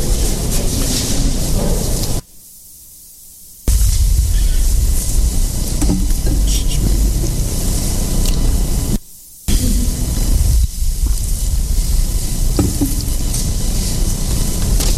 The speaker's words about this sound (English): Air conditioning has kicked on.